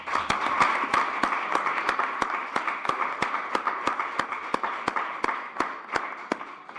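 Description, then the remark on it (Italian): Steady applause from an audience, dense overlapping clapping with a few sharper, louder claps standing out in an irregular rhythm, sustained at even volume throughout with no voices. “Un applauso.”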